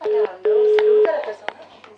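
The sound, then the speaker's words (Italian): A steady telephone line tone of an incoming call to a live radio broadcast sounds in two pulses, a short beep then a longer one, as a voice talks over it. “Beh, c'è una telefonata, aspetta che rubo.”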